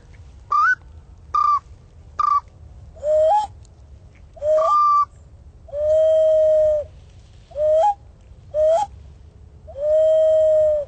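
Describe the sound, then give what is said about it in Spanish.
An ocarina mimics birdsong with breathy, hollow whistled notes, starting as quick upward-sliding chirps and then stretching into longer held tones with pauses between. It sounds clear, with no voices. “Bueno, acá tenemos también unas ocarinas para generar sonidos de pájaros.”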